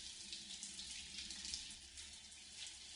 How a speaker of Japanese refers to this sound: お湯が流れる。生え際から泡が流れて消えていく。